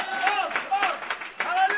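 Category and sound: crowd, audience clapping hands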